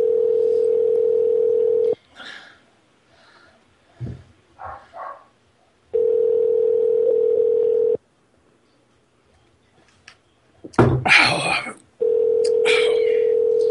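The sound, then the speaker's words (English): A telephone tone hums steadily at a low, even pitch in two-second bursts, repeating after pauses like a ringing line, during a call to a man about a leather item, while muffled voices and brief rustling noises fill the gaps. “We're gonna call this guy about this leather item.”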